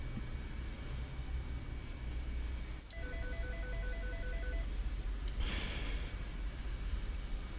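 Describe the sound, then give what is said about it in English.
A phone rings with a brief electronic ringtone, a rapid run of pulsing two-tone beeps lasting under two seconds, heard clearly over a steady hiss of background noise with no one talking. “Two phone calls right now?”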